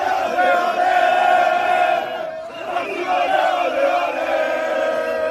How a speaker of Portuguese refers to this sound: Mesmo em menor número na casa do adversário em Londres, a torcida brasileira fez mais barulho, festa e comemorou no fim nas arquibancadas.